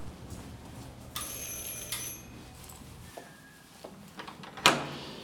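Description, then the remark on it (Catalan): An apartment door in a building opens: a few soft clicks and rattles of the latch and handle, then a sharp metallic clack near the end that rings briefly against quiet room tone. “puja per les escales d'un edifici i s'atura davant de la porta d'un pis.”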